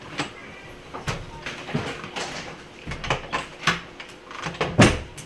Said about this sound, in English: Yeah, it's getting quite hot in here. Can we open the door back over there again?